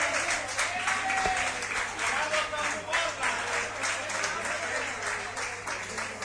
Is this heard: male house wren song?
no